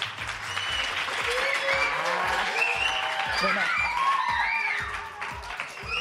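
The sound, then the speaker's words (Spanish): A large audience breaks into loud, sustained applause given in place of a guest's introduction, filling the whole stretch, with scattered whistles and cheering voices rising above the dense clapping before it eases slightly at the end. “La vamos a sustituir por un gran aplauso.”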